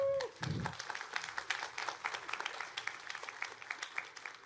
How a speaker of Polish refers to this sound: To wybitni eksperci ze świata nauki, biznesu, polityki i administracji, którzy dzisiaj podzielą się z nami swoją wiedzą i doświadczeniem. Oklaski.